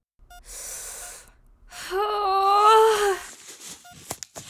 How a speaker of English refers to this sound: Yes, I'm fine. Just doing the deep breathing exercises.